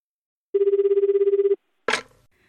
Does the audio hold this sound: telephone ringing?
yes